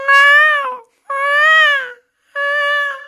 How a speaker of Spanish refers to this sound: ¿No has escuchado los gemidos de las gatitas, de algunos gatos y gatas en las madrugadas? Que sí, pareciera otra cosa.